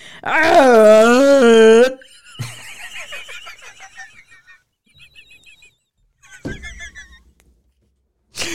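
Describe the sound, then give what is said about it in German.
A person imitates a rutting red deer stag with one loud, drawn-out, wavering bellow lasting about two seconds, followed by quieter scattered noises and faint murmuring. “Imitiere einen brunftigen Hirsch.”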